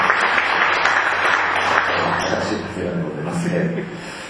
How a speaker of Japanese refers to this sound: 拍手させていただきました。